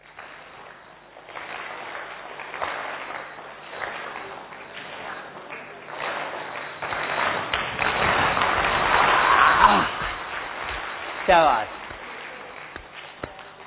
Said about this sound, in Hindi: तालियां बजा के थोड़ा सा फ्रेश लगता है भाई, बोल दिया करो।